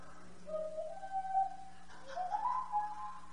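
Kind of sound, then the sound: human body sound, person whistling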